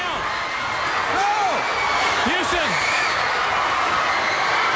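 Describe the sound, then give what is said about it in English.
A crowd roars wildly during a taped attack by the James Gang on Cornette, in a steady, dense wash of noise, with high whoops and shouts rising and falling above the din, loud from start to finish. “Y'all hear that crowd going nuts?”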